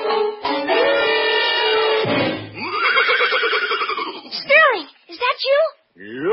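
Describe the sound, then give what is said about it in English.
A horse whinnies loudly in one long, shaky call that wavers up and down, then breaks into a few shorter, high squealing neighs before falling quiet. “And then I heard a faint thumping of hoofs.”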